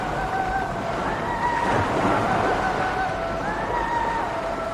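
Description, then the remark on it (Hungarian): A steady, rumbling roar of sea waves surrounds a ship, with thin, wavering whistles of wind gliding above the constant wash. No one speaks. “Hosszú sípfutam, a szél átsűvített a hajón, és feltűnt a morajló tenger rézsút emelkedő lapja.”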